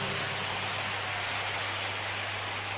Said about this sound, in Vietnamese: Nếu các cháu có thể làm được điều thầy vừa khuyên thì dành một tràng pháo tay để khen ngợi chính mình.